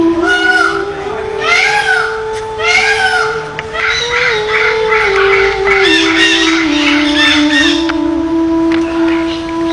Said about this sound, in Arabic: هذه الحديقة حديقة غير طبيعية، بمعنى أنها من وضع الإنسان، فهي محمية وضعت بها هذه الطيور النادرة.